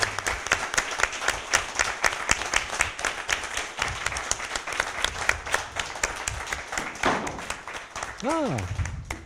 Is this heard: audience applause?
yes